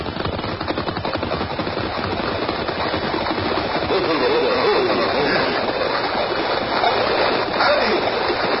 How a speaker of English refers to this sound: Look ahead there. Plenty fast river. Yes, it ought to be Mad Creek tonight.